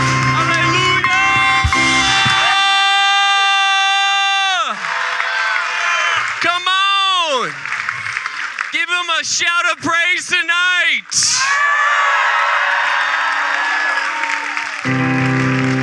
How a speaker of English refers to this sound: Come on, give the Lord a hand clap right now.